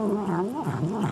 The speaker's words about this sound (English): Mike, that's a cat eating corn on the cob, and that is your Magic Audio Ball.